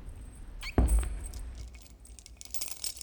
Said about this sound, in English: Hark! I hear a key in outer door. 'Tis probably more of despair.